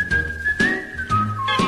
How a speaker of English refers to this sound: Whittle out a whistle and wet your little whistle and whistle all your worries away. He's such a simple, happy whistling guy.